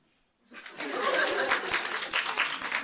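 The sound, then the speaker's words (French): A crowd bursts into applause in answer to a comedian's poll question on whether withdrawal is frustrating, dense clapping that rises quickly after a brief quiet moment and stays steady and loud, with a few audible laughs mixed in. “Par applaudissement, est-ce que c'est frustrant le retrait?”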